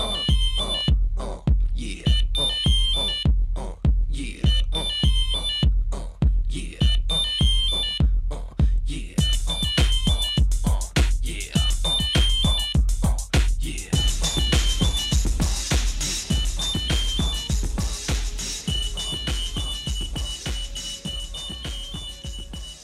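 A band's song with a steady, punchy beat, opening with a repeated phone-ringtone melody that chimes in short bursts before fuller music takes over and carries on loudly to the end.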